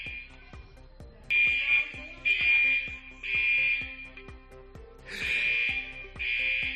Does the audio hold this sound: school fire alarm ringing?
yes